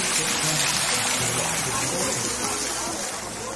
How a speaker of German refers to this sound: So, und ich halte da jetzt meine Füße noch mal rein. Das kann man nämlich machen. Angenehm kühl, das Wasserspiel. Kleines Fußbad.